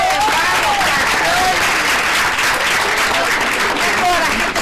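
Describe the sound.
A student audience of third-year students from Instituto Devoto in Villa Urquiza applauds live, not from a recording, in a dense, steady wash of clapping that stays loud for the whole stretch, with a few faint whistles and voices mixed into the noise.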